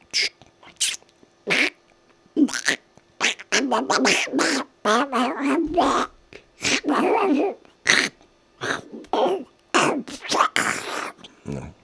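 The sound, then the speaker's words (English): A man's voice imitates Donald Duck, quacking out a rapid string of squawky, garbled bursts with short pauses between them, loud. “I can't do fucking Donald Duck, is that?”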